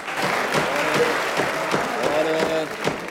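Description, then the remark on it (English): A crowd in a courtroom applauds steadily, a dense wash of clapping that holds at an even volume throughout, with murmuring voices blended into it. “smugly soaks up the applause.”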